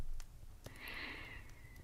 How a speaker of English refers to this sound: Why don't you listen to my breathing for a bit, human? And you can just let yourself drift off to sleep.